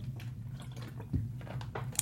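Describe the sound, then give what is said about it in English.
Someone sips water, with soft wet squishy mouth sounds and a brief gulp-like thump, over a steady low hum and no talking. “I started drinking water.”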